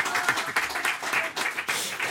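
A crowd claps steadily, a dense patter of many hands sustained at an even loudness throughout, with no speech over it.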